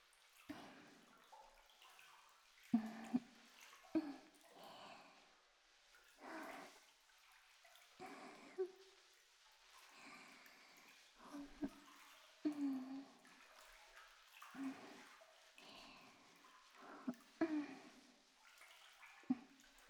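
Soft, wet squishing and rubbing of foamy soap lather on softened skin, using the slippery foam to scrub gently, repeating in gentle strokes at a steady, unhurried pace with no voices.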